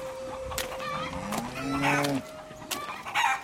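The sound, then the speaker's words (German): Chickens cluck busily while being driven into the coop, a rooster lets out a drawn-out crow in the middle, with scattered sharp squawks and barnyard bustle throughout. “Ich muss nur noch die Hühner in den Stall treiben.”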